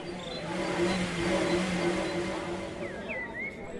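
A car engine drones steadily and fairly loudly for a few seconds, with a low harmonic hum and rough mechanical texture. Faint high chirps appear near the end, and no one speaks.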